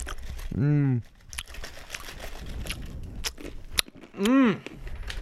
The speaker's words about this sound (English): See what this sounds like? This is how you chew. Yeah, it's good stuff.